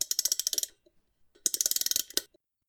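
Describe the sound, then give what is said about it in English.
A wind-up watch mechanism being wound: two bursts of quick, crisp ratcheting clicks, each lasting under a second, separated by a short pause, with no voices. “In the 1800s, Father Time had a nice wind-up watch that kept him on track.”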